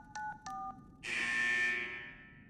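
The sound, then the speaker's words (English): Two short dual-tone keypad beeps from a phone linked to a vault keypad are pressed in quick succession to enter a code, followed by a louder, brighter electronic tone that swells and fades over about a second and a half. No one speaks. “The phone's linked up with the keypad.”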